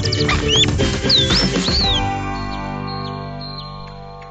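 A nightingale sings a quick run of clear, sliding whistles and chirps over low background noise, then falls quieter, leaving only a few faint, scattered notes.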